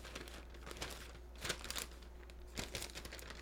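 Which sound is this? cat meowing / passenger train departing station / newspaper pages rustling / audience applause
newspaper pages rustling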